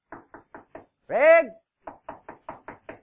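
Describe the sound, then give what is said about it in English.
Four crisp knocks, as on a wooden door, then a short voice calling out to ask if someone is in there, followed by six more knocks in a quick, even rhythm, fairly loud. “Craig, are you in there? He was already knocking.”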